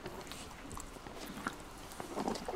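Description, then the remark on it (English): A horse chews on the bit of a bridle that has just been put on, making soft irregular crunching and faint metallic clicks, with steady low background noise and no voices. “He's having a good chew on his tasty bit.”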